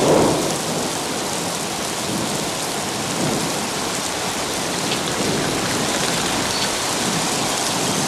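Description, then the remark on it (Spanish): Heavy rain pours down on muddy ground by a small bridge over an irrigation ditch, flooding a shoe print in the mud, in a film by Majid Majidi; a dense, loud hiss of drops with a low rumble beneath, sustained and unbroken throughout with no voices. “La lluvia arrecia inundando la huella.”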